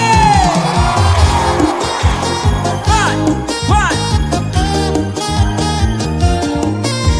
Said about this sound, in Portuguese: Cadê o gritão de Santarém?